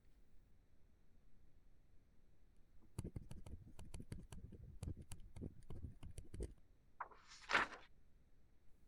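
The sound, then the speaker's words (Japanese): A pen scratches across paper in a quick run of short strokes as someone signs a contract, ending with one longer swishing flourish, all fairly quiet and with no one talking. “どうぞ、このペンを使ってください。”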